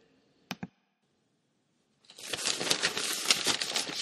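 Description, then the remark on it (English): Papers rustling: two quick taps, a pause, then about two seconds of steady, crinkly shuffling and crumpling, with no one talking. “Rustling of papers, NPR-esque background effects like papers rustling”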